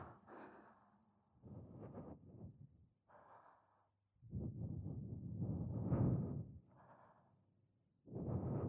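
Soft breaths blown right into the ear, several airy puffs and sighs in a slow uneven rhythm with brief pauses between them, no talking.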